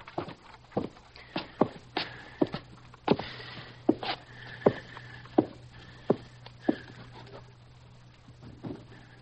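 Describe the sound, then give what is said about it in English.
Footsteps descend a staircase at a steady, unhurried pace, about a dozen muffled thuds spaced evenly apart over a low, constant hum, with no voices. “Keep going so he can hear your steps going down.”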